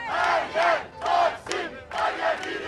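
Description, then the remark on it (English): A large protest crowd chants in unison between songs played by a pianist, loud, with voices surging in rhythmic bursts roughly twice a second, then briefly dipping between phrases. No individual speech stands out. “Between songs, the crowd reverts to its favorite chants, and the pianist, David Martello, occasionally stands on his bench to conduct them.”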